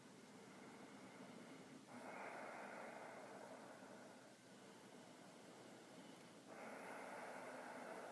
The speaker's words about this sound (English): Begin to deepen your breathing, practicing the rasp breath now. Inhaling through your nose, exhaling out through your nose. Breathing through the back of your throat. Allowing the sound to move as you both focus on and contain your breath.